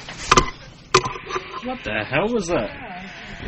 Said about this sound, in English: What the hell was that? What? Oh, that's my hand scanner. I think there's some kind of interference from the FBI.